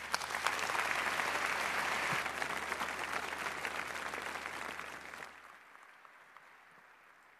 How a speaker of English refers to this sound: And I'm pretty sure that you are just as excited as me to find out what they have found out. So please give them a warm round of applause.